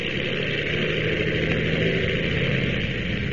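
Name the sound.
airplane engine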